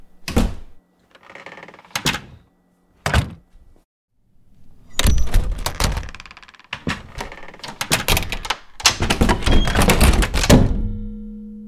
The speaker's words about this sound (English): So I'm going to show you three different doors and how they sound differently. A big deal is how doors sound when they shut.